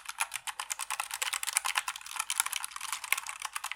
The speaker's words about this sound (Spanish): Creo que igualmente lo mejor y lo peor que tienen estos teclados son el sonido que hace, el sonido característico de tecla mecánica. Estos sonidos. Este tipo de sonido